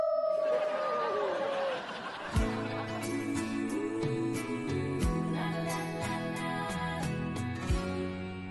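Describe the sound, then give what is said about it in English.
A person briefly imitates a she-wolf howl in a soft, breathy whisper on a count of three, a single falling note lasting about two seconds, before upbeat music with a steady thumping beat takes over. “…, whisper she-wolf howl on three”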